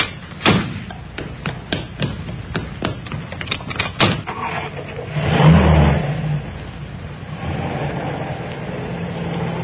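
A series of clicks and thuds, then a car engine turns over and revs up before settling into a steady hum as the vehicle pulls away.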